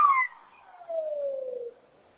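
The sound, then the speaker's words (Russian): An ambulance siren wail sliding steadily downward in pitch over about two seconds, a single clear falling tone with no voices over it, fading out at the end as the ambulance speeds past. “Скорая помощь? Да, да, скорая прям мчится.”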